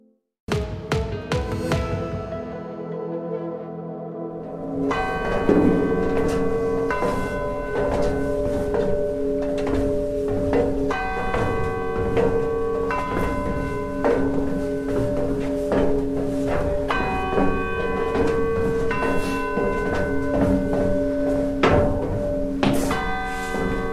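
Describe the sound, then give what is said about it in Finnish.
Church bells ring out in the bell tower of Vaasa's main church, the Holy Trinity Church, tens of metres high: heavy overlapping strikes blending into a loud, continuous wash of sustained metallic tones with a deep hum underneath. “Kymmenien metrien korkeuteen Vaasan pääkirkon eli Pyhän Kolminaisuuden kirkon varsinaiseen kellotorniin olikin melkoinen kapuaminen.”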